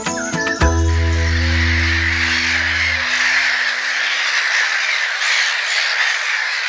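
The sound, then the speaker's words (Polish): A crow colony fills the air with a dense, unbroken chorus of hoarse, overlapping caws at steady volume, with a low droning hum underneath for the first few seconds. “Bo w takiej kolonii to, tak jak Państwo słyszą, ochrypłe takie krakanie, jakiś taki okropny zgiełk wspólny tego całego ptactwa.”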